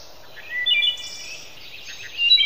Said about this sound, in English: But there was one pretty regular visitor, the wood thrush. Cousin of the robin, actually, distinguished by superior vocal abilities, which can be attributed to a double set of vocal cords.